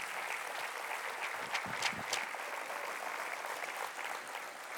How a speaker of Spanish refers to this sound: Alabado sea el Señor. Un fuerte aplauso al Señor por eso.